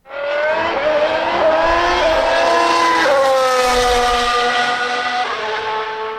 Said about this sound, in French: Alors mesdames et messieurs, démarrez vos moteurs, c'est un départ.